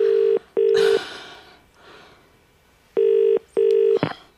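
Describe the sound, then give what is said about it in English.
A phone line rings out on an outgoing call: two clear double-burst ringing tones separated by a pause, steady, with faint background rustle between them and no talking. “Oh, please don't go to voicemail.”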